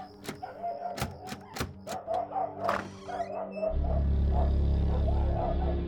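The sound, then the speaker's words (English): The door handle of a neighbours' house rattles and clunks several times in quick succession as it is tried, then the door creaks open and a low, steady rumble fills the background. “Just try the handle.”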